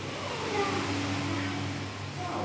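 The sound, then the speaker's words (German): Large water pumps hum steadily with a deep, droning tone, layered over a constant rushing noise; the pumps move the water and bring oxygen into the tanks. The sound is fairly loud and unbroken throughout, with no one speaking. “Was hier brummt, das sind ziemlich große Pumpen.”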